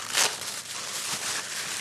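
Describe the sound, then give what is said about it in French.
Continuous rustling and crinkling of paper, with a brighter crisp burst near the start, as a pile of personal documents (birth certificate, bills, payslips) is opened, handled and shuffled. No voices. “Qu'est-ce que vous ouvrez, là ? Tous mes papiers.”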